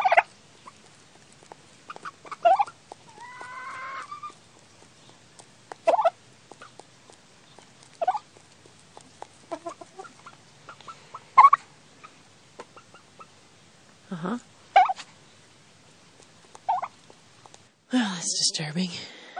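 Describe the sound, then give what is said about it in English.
A turkey gobbles in short, scattered bursts with pauses between, ending in a louder, rougher flurry of calls; other faint clucks and rustles sit in the background. “It's the turkey.”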